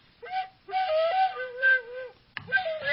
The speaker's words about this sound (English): So this one has the same fingering as a bagpipe. Oh. Only it's like a tin whistle. Yeah. But it's the same.